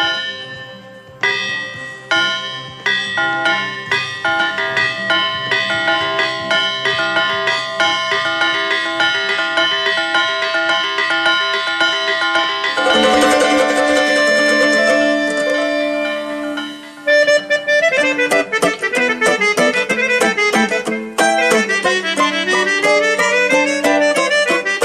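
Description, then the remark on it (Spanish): Church bells ring out a lively, festive peal, with many rapid overlapping strikes tumbling in quick succession, loud, growing busier and denser toward the end. No one speaks. “Habrá pues que repicar a fiesta.”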